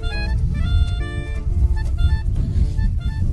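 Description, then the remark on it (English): Cars driving past along a street, with a heavy, steady low rumble of engines and a few higher whining tones rising and falling over it, with no speech. “But alright, they've all driven past.”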